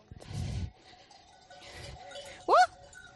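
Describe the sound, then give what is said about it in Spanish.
A flock of sheep wandering toward houses while herders try to gather it moves about with soft shuffling and low rustling, a faint bell clinking, and one sharp bleat rising clearly near the end. “Creo que ahora me van a rodear a mí las ovejas.”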